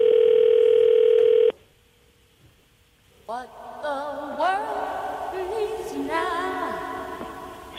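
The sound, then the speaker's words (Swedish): A steady telephone dial tone hums loudly for about a second and a half, then cuts off into near silence before voices start talking over a faint line, as Mats Nileskär phones composer Burt Bacharach. “nu ska vi lyfta luren och snacka om ett Petra Solo-avsnitt där Mats Nileskär ringer upp den här mannen.”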